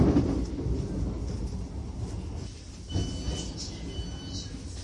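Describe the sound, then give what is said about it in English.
A passenger train to Brighton rolls along with a steady low rumble and rattle, and a thin high-pitched whine rises briefly near the end, as if the train is slowing, as it arrives at Gatwick Airport station. “will shortly be arriving at Gatwick Airport.”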